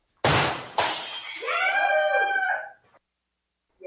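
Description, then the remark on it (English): A loud smash as a thrown object breaks, with two sharp crashing bursts a half-second apart, followed by a wavering, wail-like tonal sound that fades out. “So I'm going to smash this because that sucks. I think I'm just going to throw it.”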